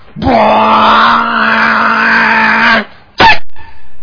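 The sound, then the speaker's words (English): A person vocally imitates a bus engine with a long, steady droning hum lasting a few seconds, then cuts off into a short, sharp hissing burst like air brakes. “Okay, here comes the bus.”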